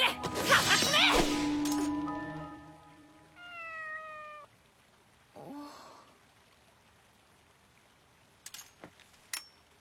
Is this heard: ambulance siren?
no